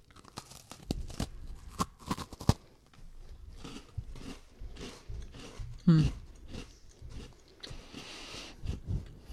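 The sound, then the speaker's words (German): Crunchy biting followed by repeated chewing of a crisp Oreo-style cookie meant to be pistachio-flavored, with sharp crackly bursts early on and softer munching throughout, some faint voices in the background. “Nee, ihr solltet ja jetzt reinbeißen.”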